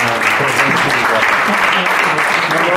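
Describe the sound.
Steady audience applause in the Aula Porrino of the Conservatorio di Cagliari, welcoming a journalist from Cagliari, fills the whole stretch, a dense wash of clapping at constant loudness with some voices mixed underneath.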